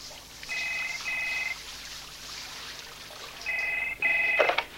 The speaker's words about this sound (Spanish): En el hotel, Lidia se ducha.